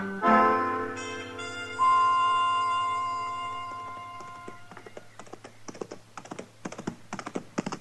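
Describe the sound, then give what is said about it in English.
A held musical chord rings out and fades, then horse hooves clip-clop in a quick, uneven rhythm, moderately loud, with no talking. “good-looking horse Chester's riding”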